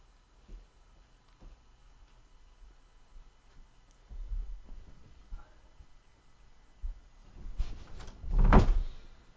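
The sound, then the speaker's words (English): A dog named Gucci scratching and pawing at a door, wanting to be let out: soft scrapes and bumps at first, then a cluster of louder rattling scrapes near the end, with no one talking. “And if you paw at the door, Gucci, you will be admonished, but ultimately let out.”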